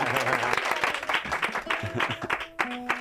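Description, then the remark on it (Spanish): An audience applauds steadily for about three seconds after a live music performance, a dense, loud wash of rapid overlapping claps, with faint sustained tones and voices mixed underneath. “Por favor, aplauso,”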